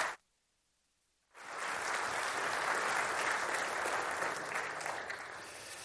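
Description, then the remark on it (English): After a brief silence, an audience at a Baptist church breaks into sustained, loud applause to welcome a speaker to the platform, a dense wash of clapping that holds steady for several seconds. “Would you welcome him to the platform of Liberty Baptist Church with a round of applause?”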